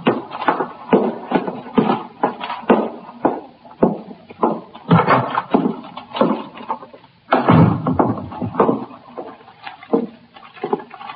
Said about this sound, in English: Carrying a paper bag, he walked in the front door of the station house, through the back room, and up the stairs to the 21st Detective Squad.